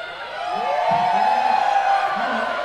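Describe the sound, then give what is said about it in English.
A crowd at a live music show cheers and whoops loudly, a rising yeehaw shout carrying over a dense wash of voices that holds steady for a few seconds. “We'd like to check the yeehaw factor here in this crowd.”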